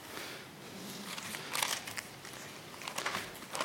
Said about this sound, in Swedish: Det kanske det gör, fast jag är i fel bok och bläddrar. Andra Samuelsboken. Jag var i första Samuelsboken och bläddrade.